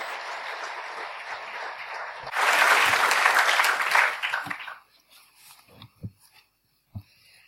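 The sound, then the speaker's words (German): An audience applauds to welcome a guest speaker at a talk: steady clapping that swells louder for a couple of seconds, then fades out into a few scattered claps and small noises. “Also ohne weitere Umstände möchte ich Sie jetzt bitten, unsere Gastrednerin mit einer Runde Applaus zu begrüßen.”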